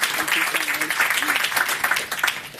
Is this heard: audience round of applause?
yes